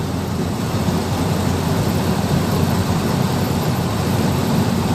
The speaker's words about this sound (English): the truck's frightened me. Just get the fuck out of their way.